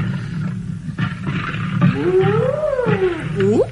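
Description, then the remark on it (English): A spotted hyena whoops at night in the bush: after a low, rumbling growl, a long wavering hoot glides up and down in pitch and ends in a sharp rising sweep, loud. “On the hyena, man. No wonder he's whooping.”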